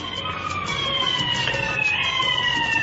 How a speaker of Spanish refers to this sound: Lo está buscando la ambulancia.